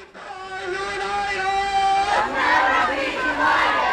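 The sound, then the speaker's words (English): A crowd of more than 200 people at a noon immigrant rights rally on the University of Illinois quad in Urbana raises its voices together in a sustained, drawn-out shout, then breaks into a louder, rowdier swell of cheering and yelling that carries on to the end. “More than 200 people attended a noon hour rally on the U of I quad.”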